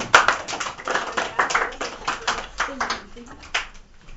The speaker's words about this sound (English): Can you give a big clap to these guys here?